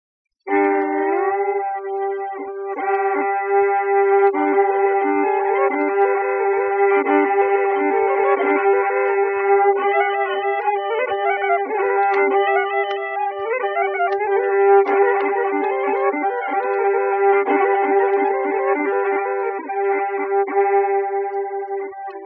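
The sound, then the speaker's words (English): An imitation of a Scottish bagpipe: a steady, reedy drone holds underneath while a nasal melody wavers and shifts above it, sustained loudly and without a break for about twenty seconds, with no talking. “Imitation of the Scotch bagpipe.”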